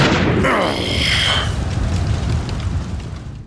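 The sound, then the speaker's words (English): A loud explosion bursts at the start, its roar and debris rumble sweeping through the first second and a half before settling into a sustained low rumble that slowly fades; the blast knocks two people backwards. “The explosion had knocked my attacker and I backwards, separating us,”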